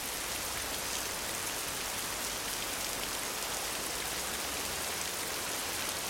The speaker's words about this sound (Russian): Похоже, дождь только усиливается.